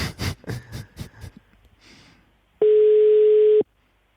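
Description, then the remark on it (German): A telephone busy signal on a failed call: one loud, steady electronic tone lasting about a second, preceded by a few quick muffled bursts of handling noise, with no talking. “Wahrscheinlich klingeln da in der Zentrale die Telefone heiß.”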